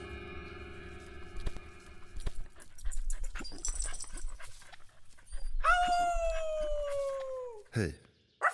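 A dog whimpers and pants, ending in a long, high, drawn-out whine that slowly falls in pitch before cutting off, with scuffling noises around it.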